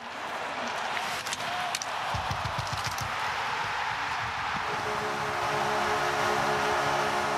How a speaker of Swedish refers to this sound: Ska vi lyssna och njuta? Ah, bästa tutan i NHL, Dallas.